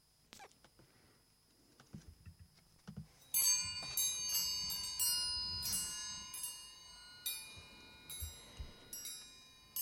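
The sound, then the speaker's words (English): Bright metallic chimes are played to begin a period of silence, ringing out after a few quiet seconds, several struck tones layering and shimmering with long sustained decay, a few soft rustles underneath. “will play the chimes to begin the silence.”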